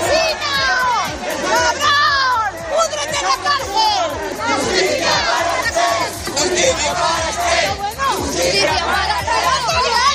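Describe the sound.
A loud crowd boos and shouts continuously, many overlapping voices jeering and yelling at once in a dense, agitated din that barely lets up, as the man under investigation leaves the courthouse under escort after testifying.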